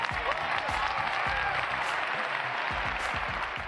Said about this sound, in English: If you understand that, clap your hands.